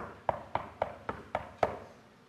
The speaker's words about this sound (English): Knock came at the door.